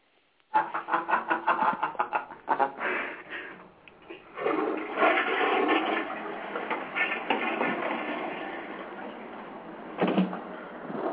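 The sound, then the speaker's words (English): A toilet flushes loudly: a sputtering, gurgling burst gives way to a steady rushing whoosh of water that drains down and then surges briefly again near the end. “Yeah, like a typhoon. A piss. That'd be fucking gross.”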